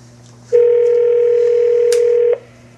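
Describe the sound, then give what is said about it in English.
A cell phone tone sounds once as a single steady electronic beep lasting nearly two seconds, loud, over a faint background hum with no talking. “cell phone.”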